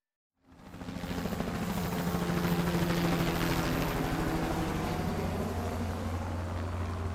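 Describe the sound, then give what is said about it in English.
Helicopter rotor noise fades in quickly and holds loud: a steady, heavy roar with a low engine hum underneath, continuing without any voices. “"I ain't jumping out of no fucking helicopter," I said.”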